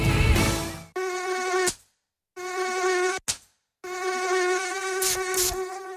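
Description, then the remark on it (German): A high, thin mosquito whine buzzes in three loud bursts, cutting out briefly between them, with no voices present. “Antibrum, der wirksame Schutz gegen Mücken und Zecken.”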